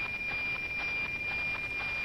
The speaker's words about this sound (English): Okay, this is the noise of the actual satellite. I don't know if you can hear me when I'm talking over, but when you're really getting a good image, you're going to be hearing this tick-tock noise, a very distinctive tick-tock noise.